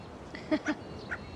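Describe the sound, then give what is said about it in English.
A black and white bird, fed on a home porch, calls: two loud, harsh notes in quick succession, then a softer third call a moment later, with no one speaking. “At home, Valerie feeds a black and white bird on her porch.”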